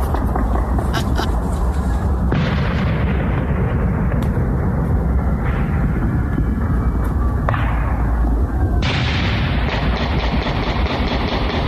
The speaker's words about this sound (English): from a ways away. That's why you don't hear the crowd, but you hear the explosions, the fireworks, and everything else.